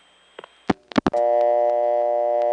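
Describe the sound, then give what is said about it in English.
A few sharp clicks and thumps on a telephone trunk line as the TSPS operator system times out, then a steady, continuous dial tone starts and hums on loudly without a break to the end. “TSPS will now time out, and this trunk goes back to dial tone.”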